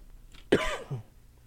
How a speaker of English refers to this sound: I'm still dying with this cough.